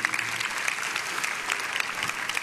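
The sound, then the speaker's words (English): Steady applause from an audience invited to pray or clap for the nation, a dense wash of many hands clapping at an even level for a couple of seconds, with no voices rising above it. “You know, amen, you can pray, you can clap.”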